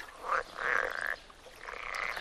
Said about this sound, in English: But the amphibians also needed to communicate with one another, and soon they added their own croaks and whistles. Frogs blow air from their lungs through vocal cords and so produce a croak.